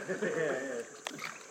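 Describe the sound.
A voice murmurs, then a single brief splash of water breaks through close by, followed by soft sloshing and more low talk.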